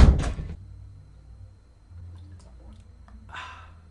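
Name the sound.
door opening and closing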